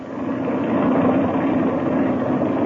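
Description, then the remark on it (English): An airplane engine warms up with the throttle cracked open a little, a steady, loud droning rumble holding an even pitch and volume throughout with no voices. “I'll crack the throttle open a little bit and let her warm up.”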